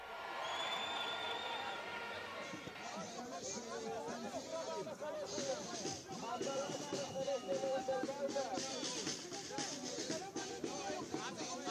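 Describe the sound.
A large outdoor protest crowd of more than 80,000 demonstrators in Tel Aviv, many under umbrellas in rainy weather and holding signs, roars steadily with many overlapping voices, shouts, cheers and chanted slogans, a few whistle-like tones rising above the din early on, loud and continuous throughout.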